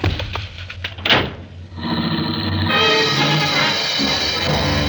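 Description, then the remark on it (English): A sharp car door slam near the start, followed by an engine roaring up and revving hard as a car speeds away down a dark street, the loud motor noise continuing to the end. “I wasn't fast enough for him, and his foot slammed me out of the car and onto the sidewalk. The car shot down the dark street and was gone.”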